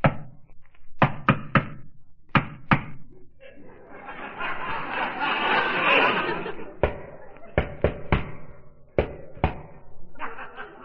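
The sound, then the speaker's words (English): Sharp knocks on a building's door come in quick clusters, a rapid rhythmic pattern repeated several times, with a stretch of muffled voices and laughter in between; a visitor knocks instead of ringing the bell. “Guy told me to knock.”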